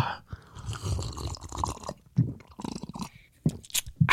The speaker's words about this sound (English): Oh, we got the water ASMR. We gotta get that in here,